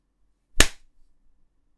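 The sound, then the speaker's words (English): A single sharp slap on skin, on the nipples, a loud, crisp smack that cuts off quickly and leaves a faint tail in otherwise near-silence. No voices are heard. “Oh, you would like it when I slap them, you little slut.”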